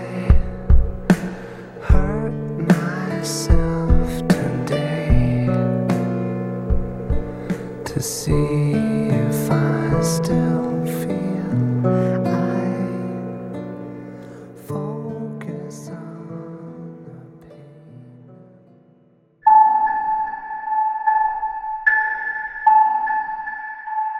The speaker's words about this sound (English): These chimes that you're hearing are a leitmotif that I use. They represent the character of Nora Evers. She's a strong character, but she's also a sympathetic one.